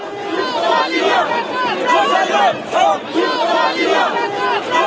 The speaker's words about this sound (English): Protesters chanted no to the police state and Bouteflika out. News reports say crowds were in the thousands, but far outnumbered by riot police.